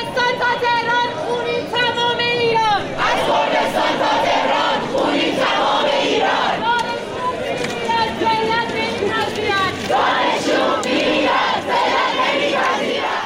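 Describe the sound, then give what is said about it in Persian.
A large group of students at Shahid Beheshti University in the capital chant protest slogans over the killing of Mahsa Amini, in solidarity with the people of Kurdistan, voices rising in loud rhythmic bursts with shouting and crowd noise throughout, no pauses in the din. “و اعلام همبستگی با مردم عزادار کردستان خیلی زود و عمیق به قلب دانشگاه‌های بزرگ پایتخت رفت و مثلا دانشجویان دانشگاه شهید بهشتی اینطور با کردستان و اهالیش همدردی کردند.”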